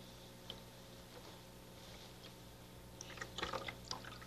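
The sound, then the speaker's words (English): Quiet dripping and light splashing of water, sparse at first and then a brief cluster of wet patters near the end, as folded rice paper is dipped and soaked, with no talking. “Soak it a bit.”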